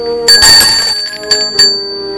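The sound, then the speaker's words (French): A doorbell rings at the door of an apartment as Alexis rings at his parents' apartment, with bright, metallic tones: one loud, sustained ring followed by two shorter strikes, the ringing overtones lingering between them. No one speaks. “Alexis sonne à la porte de l'appartement de ses parents.”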